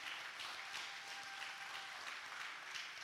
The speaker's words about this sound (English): Give God a hand clap of praise on that one.